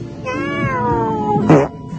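A cat lets out a long, drawn-out meow, its pitch wavering, followed by a brief, sharper cry near the end. No one speaks.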